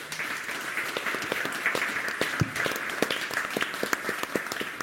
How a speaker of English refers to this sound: Thank you all for contributing, and let's have a round of applause for our speakers.